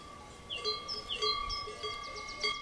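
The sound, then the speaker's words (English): Several cowbells hung around the necks of cows crossing a meadow in the Jura, some brown, others black and white, clank and ring irregularly, their bright metallic tones overlapping in a loose, unhurried rhythm against a steady background hum, with no voices present. “They have bells around the necks.”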